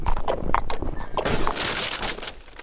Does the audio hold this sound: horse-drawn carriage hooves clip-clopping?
yes